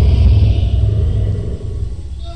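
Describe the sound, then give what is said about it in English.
A deep, continuous rumble of thunder rolls beneath a steady hiss of heavy rain, loud throughout, with no voices. “But go to the storm sound set, turn on some heavy rain, thunder and lightning.”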